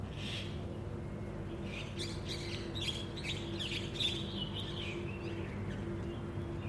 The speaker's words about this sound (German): Kommt hier gerade noch pünktlich zum Ende so ein kleines Vögelchen angeflogen.